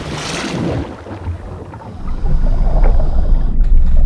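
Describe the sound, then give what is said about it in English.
Wind blows steadily in the Highlands on a bright day of about 15 degrees, with a low, blustery rumble that swells louder midway and keeps roaring, with a faint hiss on top and no voices. “Temperatures today reached a balmy 15 degrees with wind.”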